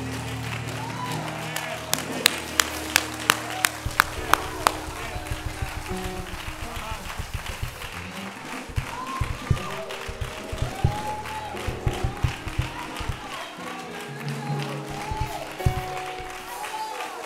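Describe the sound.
A church audience claps together in praise to God, sharp hand claps at first in a fairly regular beat, then thickening into sustained applause mixed with cheering and indistinct voices over a low sustained tone.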